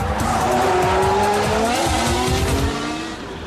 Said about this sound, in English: The new power units have to last longer too. We used to have 8 engines for the entire season. Now we only have 5 complete power units. Shall we give the first engine a tickle? Heck yeah!